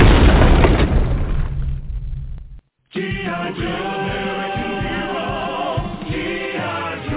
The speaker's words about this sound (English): Initiating drone strike.